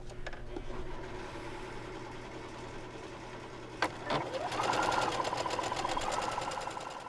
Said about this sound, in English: So we're going to fold that down about an inch, and we're just going to stitch it with a straight stitch on the sewing machine.